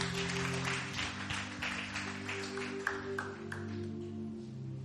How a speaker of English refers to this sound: Give another big hand clap to the worship team.